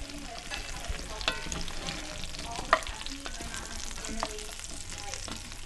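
Fingerling potatoes sizzle steadily in a Dutch oven in the kitchen of a company office in Fayetteville, a continuous crackle with scattered pops and a few sharper clinks, with no talking.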